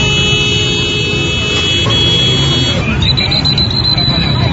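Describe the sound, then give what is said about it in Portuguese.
Car, truck and motorcycle horns blare in a sustained, overlapping chorus of steady tones during a protest blocking a highway, the pitch shifting partway through, over a loud backdrop of traffic and indistinct crowd noise. “Houve vários tumultos durante o protesto, além de buzinaço de carros, caminhões e motos.”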